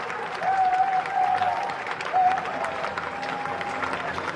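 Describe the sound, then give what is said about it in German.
An audience standing for a speaker on a wide stage applauds steadily, a dense wash of clapping that holds its level throughout, with a few brief tonal whistles or cheers rising above it near the start and middle. “Sie stehen und applaudieren.”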